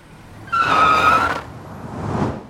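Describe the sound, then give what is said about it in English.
A car's tires squeal in a loud, sustained screech for nearly a second, then the engine rumbles as the vehicle lurches to a halt, almost hitting a pedestrian who walked out into the street. “That car almost hit you. You just walked out into the street.”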